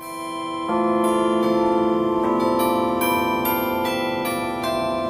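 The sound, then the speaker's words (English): Tuned metal rods, specially tuned to sound like a cast bell, ring out like church bells on the roof of Geisel Library at a university. They are struck one after another in a slow melodic sequence, each bright tone sustaining and overlapping the next. Loud, with no voices. “The way these chimes work, you can see that there's some metal rods specially tuned to sound as if they're a cast bell, and they really sound spectacular.”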